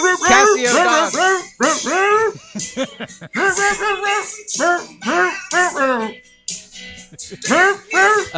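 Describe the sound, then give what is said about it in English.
A cheesy Casio electronic keyboard dog-bark sample plays a quick, bouncy melody, the synthetic yaps stepping up and down in pitch in rapid bursts with short pauses, loud. “Casio Dog, go!”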